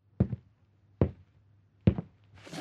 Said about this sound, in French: Soudain, on entend un pas lourd qui approche.